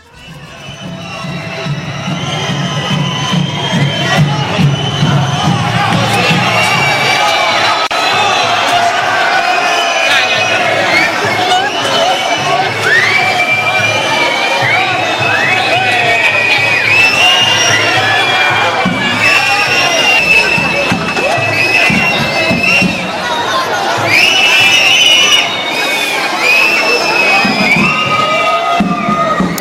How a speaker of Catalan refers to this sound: Xiulets, indignació general, només trencada perquè al pas del tabernacle el públic assistent va ovacionar Santa Tecla. Però després, quan van tornar a aparèixer les autoritats, els xiulets van retornar a la plaça